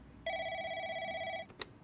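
A single telephone ring at Singapore General Hospital during night duty, a call from ISOS about the Bali bombing: a steady electronic tone lasting about a second, ending with a brief click as if the handset is lifted. Clear, with no voices.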